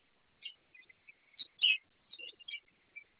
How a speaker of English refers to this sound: And the bird is Limoncello.